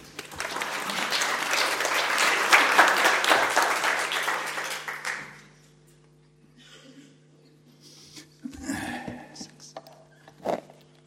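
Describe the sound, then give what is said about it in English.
A crowd applauds to welcome global health professor Hans Rosling up, with dense, steady clapping for about five seconds, then it fades out, leaving low hum and a few faint shuffles and murmurs. “Give him an applause.”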